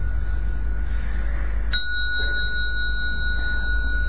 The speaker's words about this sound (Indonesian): Dengarkan suara bel, diikutin suaranya masuk ke telinga kita sampai menghilang. Hanya experience the sound.